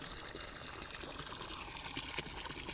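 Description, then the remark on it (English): Steady splashing of water pouring out like a small waterfall, continuous, with a broad rushing hiss and no pauses throughout. “Take it out, waterfall.”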